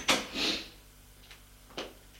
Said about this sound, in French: Ils entrent. Elle ferme la porte.